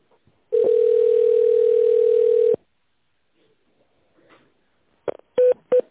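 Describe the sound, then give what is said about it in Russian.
A long, steady electronic tone holds for about two seconds, then after a pause three quick touch-tone key beeps sound in a rapid cluster as an extension is dialed. No one speaks. “Пожалуйста, наберите в тоновом режиме добавочный номер или дождитесь ответа оператора.”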